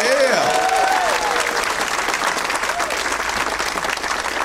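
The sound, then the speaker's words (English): A crowd applauds steadily for the staff at the Punchline, dense clapping filling the whole stretch at a loud, even level, with a few brief vocal whoops or cheers rising over it near the start. “Let's hear it for all the staff here at the Punchline.”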